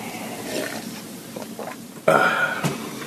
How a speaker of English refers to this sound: I burped. That tasted bad.